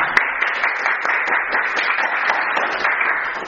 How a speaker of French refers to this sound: C'était très, très joli, on les applaudit encore.